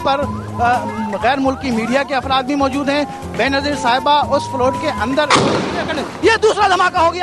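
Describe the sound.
A large crowd greeting Benazir Bhutto on her return to Pakistan after exile chants and cheers loudly, then a sudden bomb blast erupts as a heavy, roaring burst lasting about a second, after which agitated crowd voices continue.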